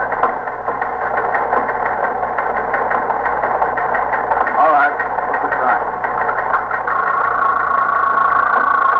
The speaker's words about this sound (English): Sergeant, see if that's the promotions on the teletype, will you?